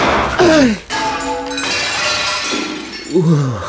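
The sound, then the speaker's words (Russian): A giant trophy cup bearing an inscription is smashed by a gunshot: a sharp crack and a clattering shatter ringing briefly, loud, with short vocal exclamations before and after. “Что, вы могли бы поздравить меня с хорошим выстрелом?”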